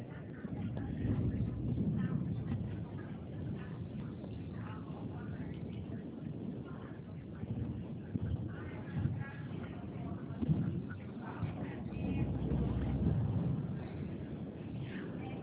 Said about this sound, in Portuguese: Eu estou no ônibus